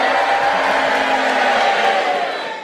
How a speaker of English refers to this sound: If you agree with Paul Merton's challenge, you cheer for him. And if you disagree, you boo for Clement Freud. And you all do it together now. Boo.